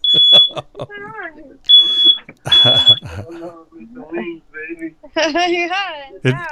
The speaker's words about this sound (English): What's that? Not sure. It's on your end. Ooh. You got the fire alarm going off? Yeah.